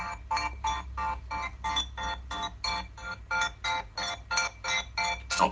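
Music chopped up by a stutter effect plugin at its default parameter settings, gated into rapid, evenly spaced bursts, roughly three chops per second, each slice cutting off sharply into near-silence over a steady low hum, creating a choppy stuttering rhythm.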